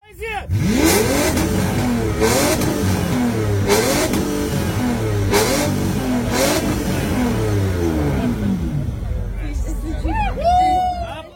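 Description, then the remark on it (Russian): An old BMW 7 Series car with air suspension revs hard through its exhaust in repeated rising surges, about five blips in a row, loud, with a crowd murmuring in the background. “Черный костюм, высший свет, престижный класс и правильный выхлоп.”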